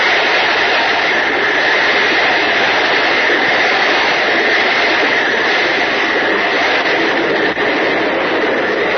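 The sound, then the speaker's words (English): A tremendous waterspout at sea, a great whirling column of water reaching from the ocean up into the clouds, sighted from the schooner Walkaway, roars without letup, a loud, steady, hissing rush of churning water and wind that holds one level for the whole stretch, with no voices. “You hear is a tremendous water spout that has just been sighted by Jack Armstrong and Uncle Jim, who are at the wheel of the schooner Walkaway.”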